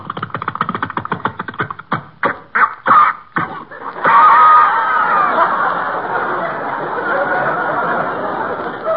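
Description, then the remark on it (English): A small pull-start generator engine, started by winding a rope around the flywheel and pulling, sputters in rapid, uneven bursts, coughs a few times with short gaps, then catches into a steady, rough running drone, its exhaust smoking. It is fairly loud, with no talking. “Just wind the rope around the flywheel. And pull.”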